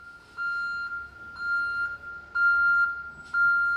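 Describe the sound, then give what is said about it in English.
A refrigerated truck loaded with meat reverses up to a hospital kitchen's loading dock, its backup alarm sounding four loud, high, evenly spaced beeps about once a second over a low engine rumble, with no one talking. “On this day, a refrigerated truck loaded with meat is backing up to the kitchen's loading dock.”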